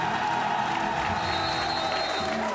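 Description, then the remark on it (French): An audience claps steadily for a musician who has just played with his orchestra, a dense, even wash of many hands that holds at a constant loudness for a couple of seconds, with a faint murmur of crowd voices mixed in. “Tu es resté et tu as joué et tu as plu et on va t'applaudir.”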